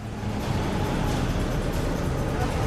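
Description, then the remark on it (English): Two CTU Fortrack vehicles and a blacked-out van pull into a quiet car park at the rear of a nightclub, with a steady, fairly loud low engine rumble and broad road noise that stays even throughout, with no voices. “Two CTU Fortracks and a blacked-out van arrive at a quiet car park to the rear of the nightclub.”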